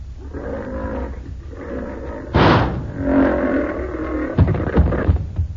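lion roaring

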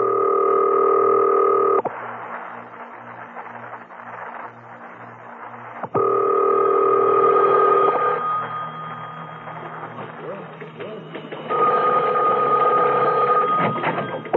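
telephone being dialed

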